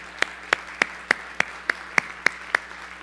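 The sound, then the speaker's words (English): An audience in Minnesota applauds the day, clapping together in a steady, even rhythm, about nine sharp crisp claps roughly three per second, with no voices over them. “Let's applaud this day.”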